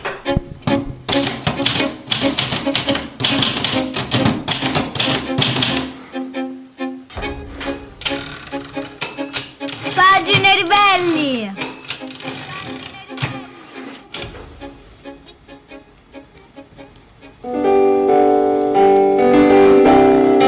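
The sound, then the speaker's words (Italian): A brisk intro jingle for a radio book segment, built on rapid typewriter clacking and tapping, with a voice briefly calling out a title before a fuller musical passage swells in at the end. “partono cose a caso oggi. Pagine Ribelli, è già partita.”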